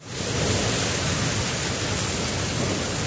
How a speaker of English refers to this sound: That's not just rain, it's hail, a lot of hail. Up to 5 feet of it fell in some parts of Guadalajara.